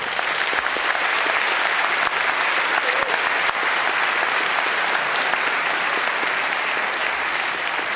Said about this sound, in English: Okay, here we have to wrap it up. Please give a very warm applause to our speakers.